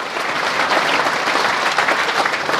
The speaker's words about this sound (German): Der Bundesrat wurde von den Zuschauern mit grossem Applaus empfangen.